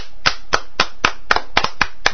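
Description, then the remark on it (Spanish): Steady rhythmic clapping, about ten sharp, crisp claps at an even brisk pace, with one or two slightly doubled, and no voices. “Un aplauso por favor,”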